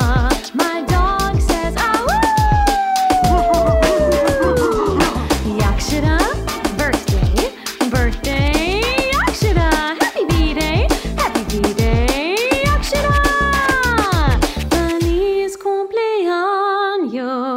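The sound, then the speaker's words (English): A dog yowls and howls along to a happy birthday song in long, sliding tones over a busy, steady musical backing, loud, with the howls rising and falling several times. “My dog says, to you”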